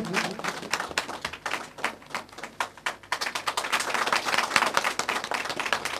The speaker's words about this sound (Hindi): तालियों से स्वागत कीजिए इनका आप लोग भी।